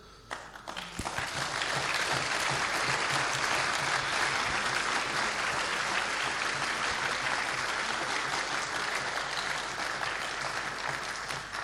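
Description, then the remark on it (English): A large audience breaks into sustained, loud applause for the event's volunteers that starts abruptly after a brief moment and continues steadily, a dense wash of clapping with no speech over it. “Any volunteers not busy are more than welcome to join us on stage and get your round of applause directly in person.”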